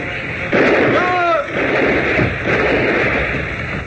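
A loud, sharp gunshot cracks out during a robbery, followed by a brief cry and a couple more heavy, noisy bursts rumbling in quick succession.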